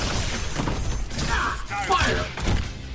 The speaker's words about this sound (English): Iron Man! Yeah. Target acquired! It's the big one! Proton cannon! Fire!